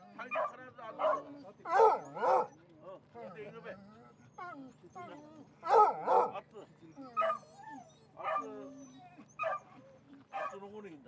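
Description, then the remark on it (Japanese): Hunting dogs, brought by hunters on a drive hunt for deer in the mountains of the Oshika Peninsula, Japan, bark repeatedly in irregular bursts, some sharp and loud, others quieter and yelping, over a steady low hum, with brief gaps between the barks. “数匹の犬を引き連れたハンターたちが各自のポイントにつき、約4キロもの猟銃と狩猟道具を担ぎながら山の中を歩き回り、鹿を探していきます。”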